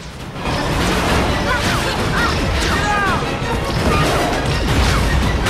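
A spacecraft chasing a car through a tunnel too narrow for it scrapes and crashes repeatedly against the tunnel walls, a sustained loud barrage of grinding metal impacts and clangs over a dense roar, with no pause for the full stretch.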